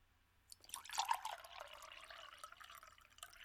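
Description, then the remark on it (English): Water from a pitcher splashes and gurgles into a glass, starting abruptly and continuing as a steady pour with bright, bubbling trickles for a few seconds. “Fill that glass.”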